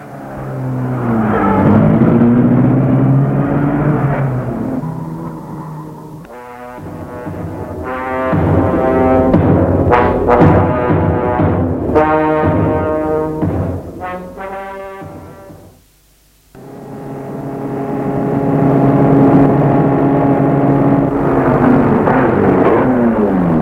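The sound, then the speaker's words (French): A car engine drives by, its droning hum rising and falling in pitch as it revs through gears, briefly cutting out before starting up again. No one speaks. “Il sort de sa maison et prend sa voiture.”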